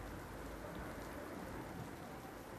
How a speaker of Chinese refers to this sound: 他们吵得太厉害了，他们俩没有看见一大块乌云飘过来遮住了太阳，也没有听到起风的声音，他们甚至没有注意到 开始下雨了。